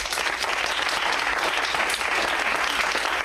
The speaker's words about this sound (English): All right, then, by your applause, should the winners be